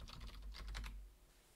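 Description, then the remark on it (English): Quick bursts of typing on the keyboard of a keyboard-and-mouse combo plugged into a USB Type-C hub, logging in to a small computer, a run of crisp key clicks lasting about a second before trailing off into quiet. No one speaks. “I also have the Type-C hub plugged in up top here with a keyboard mouse combo. So let's go ahead and log in.”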